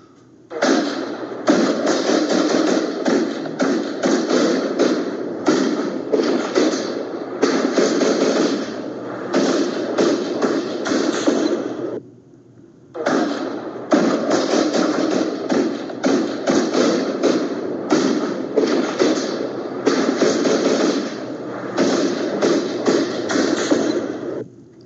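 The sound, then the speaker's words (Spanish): Rapid, sustained gunfire with dense overlapping shots rattling on for about twelve seconds, a brief pause, then another long barrage just as intense; no voices. An armed clash at midday in Capácuaro, in the Purépecha region of Michoacán, Mexico, as armed men from several indigenous communities stormed the community. “Así se escuchaban los balazos allí en Capacuaro este mediodía, Toño, porque pues entraron algunos indígenas de varias comunidades, hombres armados de diferentes pueblos, este mediodía irrumpieron violentamente a la comunidad de Capacuaro”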